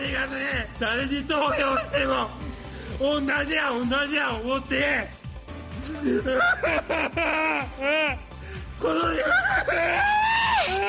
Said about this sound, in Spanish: un político, ¿sí?, al que le pillaron en chanchullos ahí en Japón, y lloraba así cuando le pillaron